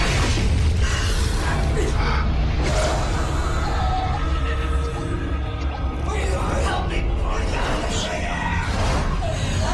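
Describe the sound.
A loud, relentless wall of mid-2000s horror movie trailer sound effects: booming hits, whooshes and crashes piled together with screaming voices, dense and sustained from start to finish.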